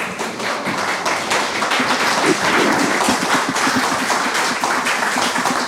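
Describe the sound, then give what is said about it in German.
An audience applauds: many hands clapping in a dense, steady stream of sharp claps, fairly loud and sustained throughout without voices. “Und das Schöne an dem Live-Podcast war natürlich auch, es gab etwas, was wir so sonst nicht bekommen. Applaus!”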